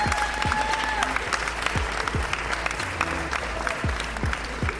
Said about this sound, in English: que je vous demande d'applaudir avec la ferveur d'un accueil du Roi Soleil.